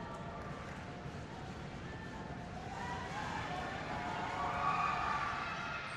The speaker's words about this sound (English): You heard the Taconic section stomping their feet.